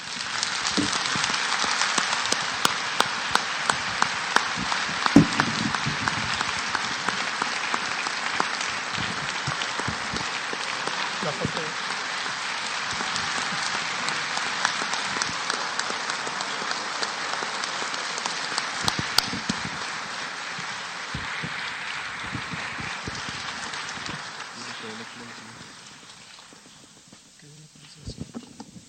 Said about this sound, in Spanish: Muchísimas felicidades y fuerte el aplauso.